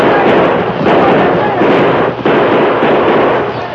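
gunfire

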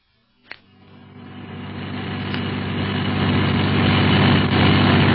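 car engine running

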